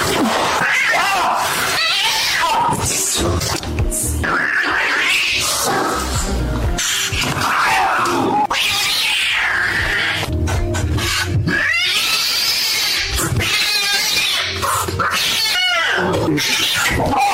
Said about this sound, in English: It's well known that cats don't like getting baths. A pet groomer recorded a video of the world's angriest cat getting a bath. Here's his supercut of taking it out of the cage, washing, rinsing, drying, and getting it back in the cage.